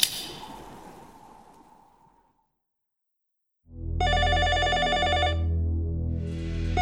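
A loud, rattling telephone bell rings in a long burst, then starts again just before the end. A softer sound fades out first, followed by a short silence.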